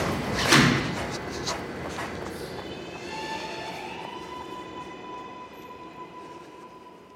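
A train pulls in with a steady rumble, a sharp clunk near the start, then a rising electric whine as it slows. There is no talking.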